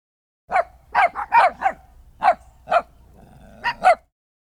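A dog barks loudly about nine times in quick, uneven bursts, with short pauses between clusters of barks and no one talking.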